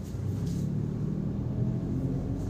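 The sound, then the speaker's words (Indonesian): Steady low engine rumble from inside a moving car after dropping a younger sibling off at school, a continuous droning hum filling the low end with no voices or other distinct sounds. “Ini sekarang juga lagi di mobil.”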